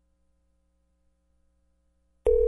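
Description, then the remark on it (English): After a long stretch of near silence, a loud electronic telephone ring abruptly starts right at the end, a steady buzzing tone cut off after a fraction of a second. “I was afraid to answer the phone.”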